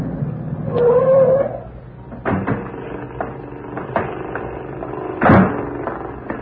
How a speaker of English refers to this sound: It'd be the corner house up there where the man is mowing the lawn.